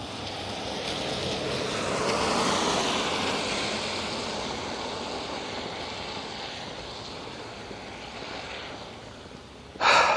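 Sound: rain falling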